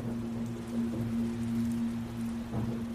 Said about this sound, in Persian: هرچی بارون بیشتر می اومد کثیفی این شمشادا هم کمتر می شد.